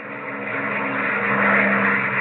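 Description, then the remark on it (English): A steady, loud engine roar with a low droning hum swells slightly as aircraft pass overhead at the airbase at Thalitar, with no voices present. “You know, I've never seen such planes as you have here”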